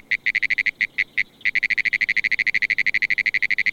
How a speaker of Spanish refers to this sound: Y aquí tienen, señoras y señores, a la rana de los pinares.